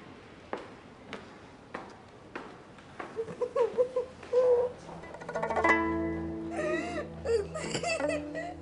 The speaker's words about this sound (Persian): چی شده؟ چی شده؟ بر چی داری گریه میکنی؟